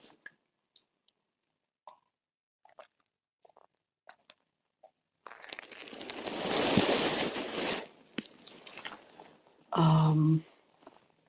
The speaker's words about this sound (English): So let me grab a drink of water. I'm a little dry.